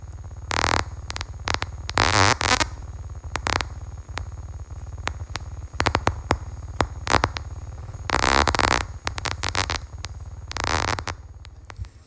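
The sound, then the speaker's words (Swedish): Porpoise clicks slowed down to be audible: rapid, buzzing click trains in bursts of varying length, some stretching into rasping, zipper-like buzzes, over a steady low hum, with no talking. “Ja, och vi har ju ett läte som är lite modifierat så att våra människor faktiskt ska kunna höra. Så här låter tumlare.”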